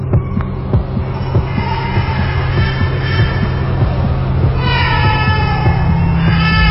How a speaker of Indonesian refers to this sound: Tak lama setelah nenek itu berhenti bergerak, tiba-tiba, astaga, kali ini terdengar suara bayi menangis.